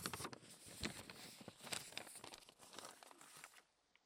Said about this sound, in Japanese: 契約書の紙です。契約書の控え。やっぱり紙薄い音しますね。すっごい薄い紙なんです。